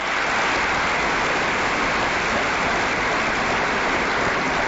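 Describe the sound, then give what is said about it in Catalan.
A concert audience applauds a band with dense, steady clapping that holds at an even, fairly loud level for several seconds, with no voices breaking through. “Jo quan han parlat, han dit els … han fet un disc en català, demano un aplaudiment pel …, sisplau.”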